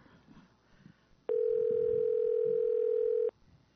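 A single steady ringback tone from a phone line, as a host at KAPU radio in Watsonville, California, dials a guest on air, sounds for about two seconds, clear and fairly loud, before cutting off, with faint background noise before and after.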